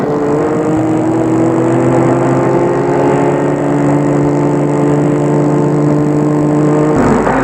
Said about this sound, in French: Gilbert va arrêter la voiture devant l'entrée de l'hôtel.